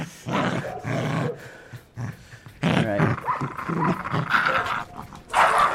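Several dogs, one named Chester, growl and pant in a continuous, overlapping jumble of low rumbles and breathy huffs, with a brief human voice mixed in.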